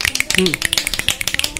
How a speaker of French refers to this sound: Pour clarifier les choses, on claque les doigts.